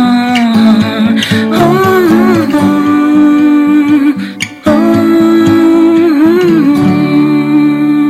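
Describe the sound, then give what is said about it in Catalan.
A recorded song plays loudly and continuously, with a sung melody over steady instrumental backing and a brief dip in the music partway through before it resumes. “Bé, hem escoltat aquesta cançó”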